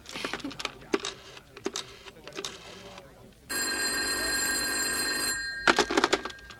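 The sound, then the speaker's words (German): A telephone bell rings in one loud, continuous metallic burst lasting about two seconds, with scattered clattering and handling noises before and after. “Ach, sagt mir's über Telefon.”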